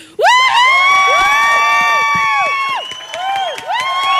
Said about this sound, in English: All right, well, I'd like to hear from the audience by way of applause, okay, and whoops and cheers and hollers.